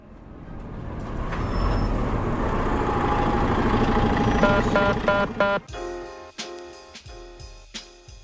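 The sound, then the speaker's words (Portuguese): A large bus rumbles past with a loud, steady roar, a high brake squeal and air brake hiss, then its engine settles into a choppy, uneven idle. “Ônibus.”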